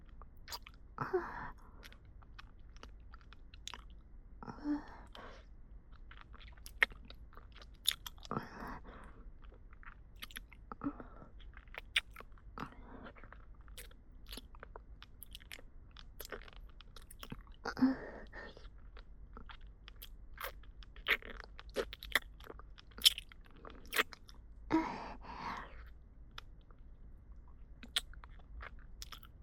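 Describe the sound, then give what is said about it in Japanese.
Hard candy is crunched and chewed in a steady series of crisp, crackling bites, with sharp clicks and wet mouth sounds between them. No one speaks. “ほら、まだ雨残ってますよ。もう一回。”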